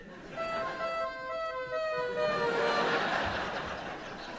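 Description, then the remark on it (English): A wailing emergency vehicle siren holds a steady, bright tone that dips slightly in pitch partway through, loud over a rough background, lasting the whole few seconds. “Even things like sirens.”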